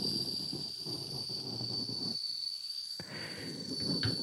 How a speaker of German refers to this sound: Hört das Entweichen der Luft. Ein langgezogener Furz.